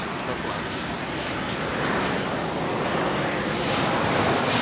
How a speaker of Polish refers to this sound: No tak jak nam teraz towarzyszy samolot.